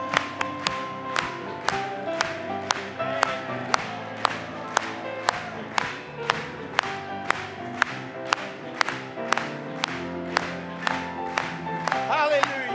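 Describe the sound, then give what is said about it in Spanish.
An audience claps during a hymn in a steady, even beat, roughly two claps per second, sharp and loud over sustained music and singing voices throughout. “Vamos a aplaudirle.”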